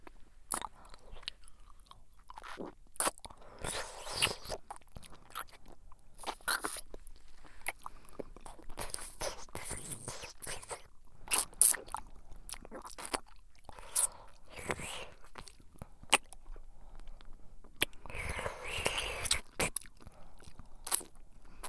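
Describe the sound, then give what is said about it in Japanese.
Crunchy chewing with a mouthful of food, loud irregular bites and munches that repeat steadily throughout, broken by bursts of louder crackling, with a muffled voice mumbling between chews. “とりあえず口の中に何かを入れながら喋ればいいやつ。”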